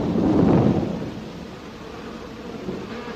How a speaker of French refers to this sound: L'orage est sur nous.